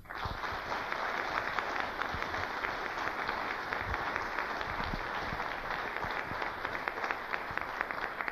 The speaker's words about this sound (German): Man kriegt ja oft nur so einen kleinen Ausschnitt mit an den Abenden, was das alles für Arbeit gekostet hat, was ihnen das für Arbeit gemacht hat. Und ich denke, dafür haben sie einen kleinen Applaus verdient.